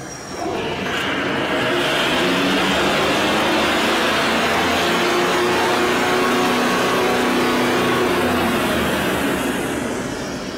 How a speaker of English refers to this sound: To the best of my knowledge, the Aero Diesel engine's development started in the late 80s, with engine testing starting in the mid-90s. Then, this bench test video appeared on YouTube in 2015.